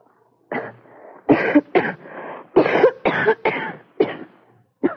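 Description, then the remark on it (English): A woman coughs repeatedly at a doctor's request, a run of about eight harsh, hacking bursts with short raspy breaths in between and no talking. “I want you to cough. Go ahead, …. Cough.”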